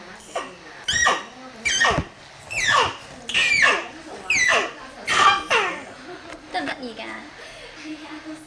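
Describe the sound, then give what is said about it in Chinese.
A high, playful voice imitates a little mouse squeaking, repeating about seven short, pitched squeaks in a steady rhythm, with no other talking. “啾啾声嘅，啾啾声系老鼠仔喎。”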